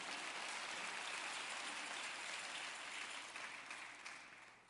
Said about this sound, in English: Let's give a hand clap.